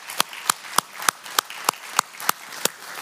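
Applause from an audience, given as thanks to God, comes through as a steady, even beat of sharp, bright claps, about three per second, with no talking over them.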